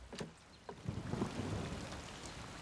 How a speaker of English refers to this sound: It's raining. Raindrops disturb the surface of a lily pond.